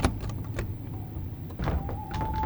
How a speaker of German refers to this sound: Und obwohl eine Stimme in mir aufschreit und mich ermahnt, umzudrehen und wegzurennen, bemerke ich, wie meine Hand die Türklinke ergreift und sie herunterdrückt.